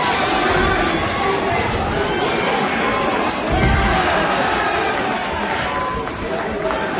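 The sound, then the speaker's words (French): A loud, dense crowd shouts encouragement continuously around a street fight between two boys, many overlapping voices merging into a steady roar that barely dips for the whole stretch. “Et tout autour, donc, il y a surtout des encouragements, j'en ris.”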